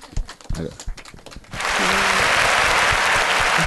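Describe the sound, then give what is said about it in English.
A few scattered, separate claps, then a crowd breaks into full, loud, steady applause welcoming a guest to the stage, carrying on evenly to the end. No voices are heard. “It's the natural end to that applause that I like very much.”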